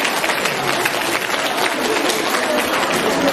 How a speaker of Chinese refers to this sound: 让我们再次用热烈的掌声感恩大慈大悲的卢军宏台长。